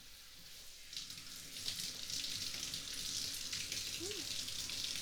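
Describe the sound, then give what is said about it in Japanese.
A steady hiss of running water from a shower spraying warm water over a towel covering a person's whole body, swelling slightly after the first second and then continuing evenly and fairly softly throughout. “僕の全身にタオルをかぶせて、その上からシャワーかけていきまちからね。”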